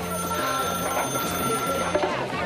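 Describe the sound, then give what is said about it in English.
A telephone rings with a steady, sustained electronic tone that holds several bright, high harmonics, continuing unbroken and fairly loud for the whole stretch with no one speaking. “So now we're going to start by hearing from Nat after the phone rings”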